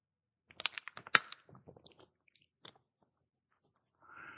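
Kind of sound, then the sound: food or drink, person sipping water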